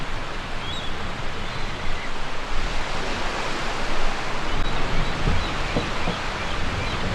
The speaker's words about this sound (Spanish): Imagina que estás en un barco, flotando en el océano. El sol está muy brillante. Y el barco se mueve suavemente sobre el agua.